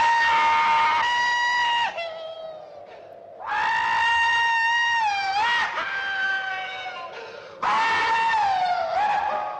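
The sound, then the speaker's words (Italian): In a film's final scene, a US Air Force general riding an atomic bomb as it is dropped screams at full force in three long, sustained, wavering yells, each a couple of seconds long, separated by short gaps filled with a low rumbling background. “Infatti c'è un urlo incredibile.”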